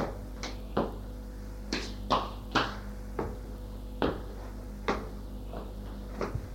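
Clatter of waste being dropped into a bin behind a door after a meal, with a series of sharp knocks and bumps at uneven intervals and no talking.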